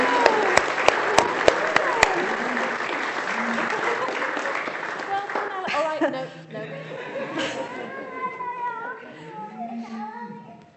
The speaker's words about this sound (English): A clap. Yay!